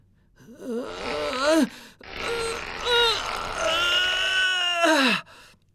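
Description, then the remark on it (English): Someone straining to draw the Emperor's bow at an archery session gives a strained, effortful grunting groan that rises and wavers in pitch, breaks briefly, then resumes as a longer held strain before sliding down into a falling exhale. It is fairly loud and wordless. “I really can't draw the bow.”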